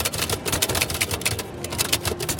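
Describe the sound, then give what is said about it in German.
Rapid, uneven clacking of an old manual typewriter's keys, struck in quick bursts with a faint background hum and no voices, as a postcard to the next president is typed at a table among passers-by. “Allein schon dieses Geräusch einer alten Schreibmaschine macht viele Passanten neugierig.”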